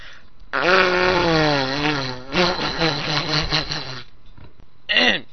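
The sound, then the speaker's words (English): A drawn-out, theatrical sneeze onto a microphone: a long, wavering voiced wind-up that breaks into several choppy bursts, followed by a short final vocal burst. Loud, with no talking alongside. “All that sneeze stuff got sprinkled all over my microphone!”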